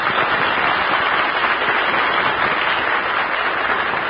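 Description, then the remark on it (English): The studio audience of the Breakfast in Hollywood broadcast cheers and applauds, sending a cheer to parties in Coal City, Glencoe, Lakewood, Omaha and St. Louis; a dense, steady wash of clapping and shouts holding at a loud, even level for the full four seconds with no speech over it. “Let's send them a cheer from the home base.”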